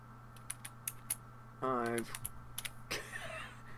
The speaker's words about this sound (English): Can hear you typing. Sorry, I had to tell somebody something.